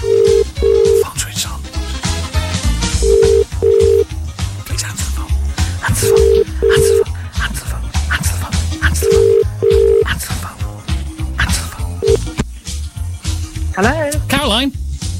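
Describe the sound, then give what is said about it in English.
A telephone ringing tone, as a radio presenter calls a listener's phone on an outside line, repeats in steady double rings about every three seconds, sounding over a loud, rhythmic music bed, before cutting off near the end. “If you can get an outside line, that's always a good start. I hope they've got their phone switched on.”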